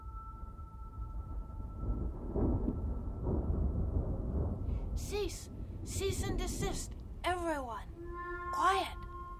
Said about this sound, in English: You hear that? It is impossible. Sounds like a thunderstorm.